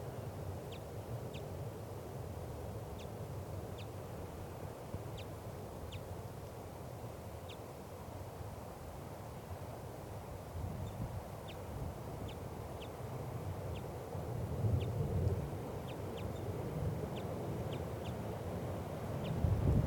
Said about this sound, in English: It's 1:25 p.m. And it's above the net setup now in the lodgepole pine. Recording. Wild bird. Very weak.